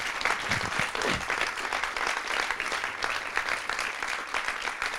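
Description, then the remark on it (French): A crowd applauds steadily, a dense, continuous patter of many hands clapping at a fairly loud, even level for about five seconds, with no voices standing out. “Donc je tiens vraiment à ce qu'on les félicite et ce qu'on les applaudisse pour tout ce qu'ils font ici.”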